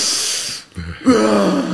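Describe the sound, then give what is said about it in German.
A voice imitates a sharp, deep gasping breath, like sucking in air on plunging into cold water: a breathy hiss, a short pause, then a voiced, strained inhale-exhale, fairly loud. “Ja, aber es sind die ersten 2 Atemzüge, die sind schon tief. Und dann kommt halt dieses...”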